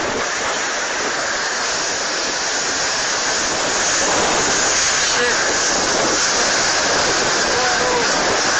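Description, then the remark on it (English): Super Typhoon Haiyan's wind and heavy rain striking the Philippines roar as one dense, unbroken hiss, loud and steady for the full length, with a slight surge in intensity partway through. Winds of 195 miles per hour, gusts of 235. “This is a look inside perhaps one of the strongest storms in recorded history.”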